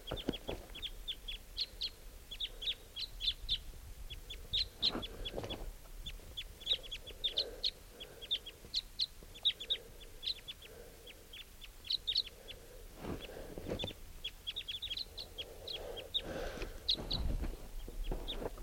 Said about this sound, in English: and there's a wild crossbill here. Got attracted into camp by the decoys. Pointed at the wild bird. Oh, there are two birds. Type twos.